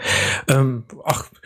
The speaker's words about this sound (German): Der räuspert sich schon die ganze Zeit krampfhaft, oder?